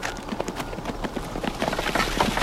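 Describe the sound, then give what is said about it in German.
Horse hooves clip-clop steadily as a carriage rolls along in a German audio drama, heading back to Schloss Montesi, a quick irregular patter of sharp knocks over a constant low rumble, moderately loud and with no voices. “Die Wölfe folgten dem Gefährt.”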